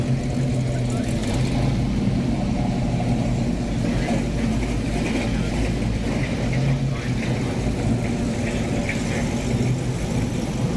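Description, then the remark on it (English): A steady, loud engine idles with a deep, even rumble throughout, while indistinct crowd murmur and outdoor bustle fill the background of a busy car show. “Well, enjoy the car show.”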